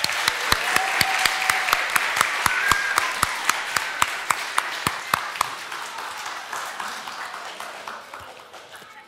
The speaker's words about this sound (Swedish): Ska vi applådera?